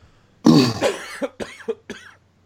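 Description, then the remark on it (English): A man coughs: one harsh, drawn-out hack followed by a quick series of three or four shorter, rougher coughs, with no talking. “He's coughing it up. He can't get it out.”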